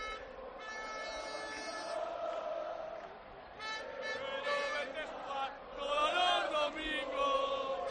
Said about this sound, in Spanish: Y estamos viendo cómo poco a poco están avanzando. Y así suena de nuevo todo el corteo.